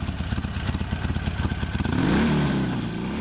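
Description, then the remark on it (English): A Japanese motorcycle engine, not a Harley, starts and idles with a rapid, rough chugging, then revs up briefly into a rising whine before settling. It's loud, with no voices. “The sound bullet you just played of a motorcycle starting was not a Harley.”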